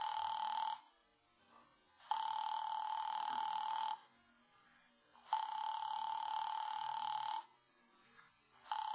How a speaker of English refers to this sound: Why didn't she pick up that phone? Your party doesn't answer.